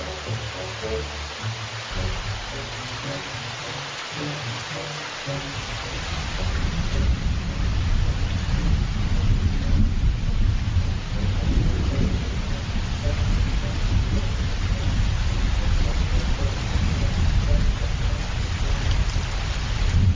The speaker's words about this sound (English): Now it's starting to rain.